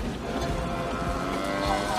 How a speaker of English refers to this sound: Another cow. Actually, I think that was the same one.